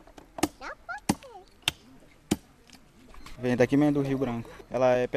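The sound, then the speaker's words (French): A young man chops a fish nearly 2 metres long, caught in the Rio Branco, with a knife on a wooden table in Tupari territory. There are four sharp, evenly spaced blows. Birds chirp faintly between strikes, then a man starts talking. “Sur une table de bois, un jeune homme découpe un poisson de près de 2 mètres de long.”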